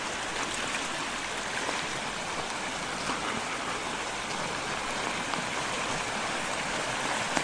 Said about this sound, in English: We have lots of waterfalls. There's still some ice in the creek.